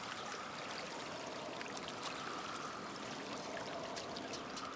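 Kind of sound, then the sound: nature, flowing river water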